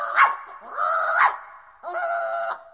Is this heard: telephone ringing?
no